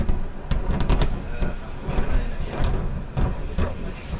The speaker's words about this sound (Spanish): Rusia reconoce un acto de sabotaje en Crimea. La explosión este martes ha sonado más o menos así, después las explosiones posteriores a la principal, en Tsankoy, es en la península de Crimea.